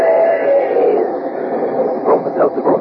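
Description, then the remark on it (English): A steam train sound effect in an advertisement for Bromo Seltzer headache remedy, thin and lo-fi, with a sustained whistle-like tone fading into rhythmic, closely spaced chugging puffs near the end, fairly loud. “But when it's a common sick headache that's got you down, take this tip from our educated train.”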